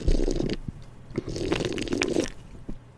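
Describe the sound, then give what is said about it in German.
Loud, wet slurping of a Knabe Malz drink, with gurgling, bubbly bursts that come in two main stretches and a short final sip, with no talking. “Die Folge wird jetzt richtig schlimm zum Anhören, weil ich habe so gottlos geschlürft.”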